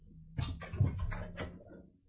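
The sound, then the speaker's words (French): A glass bottle of Thomas Beckett beer being opened: a few short scraping, clinking bursts from the cap, each with a quick airy hiss, then a faint fizzy tail as the beer foams over. No one speaks. “Oh, c'est un bruit qui me plaît ça. Voilà, donc écoutez ça un petit peu. Déjà, c'est une bouteille en verre.”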